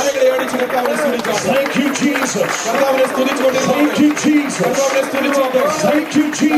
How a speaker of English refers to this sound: Now let's clap our hands and make some thunder and noise in this.